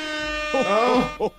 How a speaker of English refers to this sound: A festive air horn.